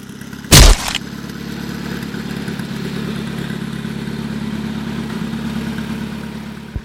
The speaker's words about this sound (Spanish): ¡Cuidado con el tractor de las plásticas, se nos echa encima!